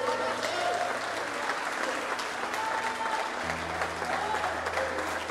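An audience applauds the Lord steadily for several seconds, a dense wash of clapping with crowd noise, over a low sustained hum that shifts pitch midway.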